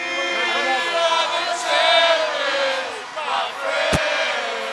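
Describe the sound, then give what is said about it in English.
A dense wall of crowd yelling and cheering at a Dodgers parade in downtown Los Angeles as double-decker buses carrying players pass, many voices overlapping in a steady loud roar with rising whoops and one sharp bang near the end. “At that point, it's just a wall of yelling.”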